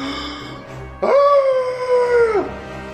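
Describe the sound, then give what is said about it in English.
A loud monster shriek, the Sabusan's Fell Shriek, a deafening cry in a 30-foot cone, bursts in suddenly and holds one high, howling tone for over a second before sliding downward and cutting off. A quiet background hum comes before it. “Sabusan emits a deafening cry in a 30-foot cone.”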